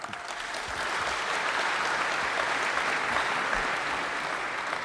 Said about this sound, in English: Yeah, they clap for my things too sometimes. Yeah, why don't you say you like puppies and kittens next? You'll get a clap for that too.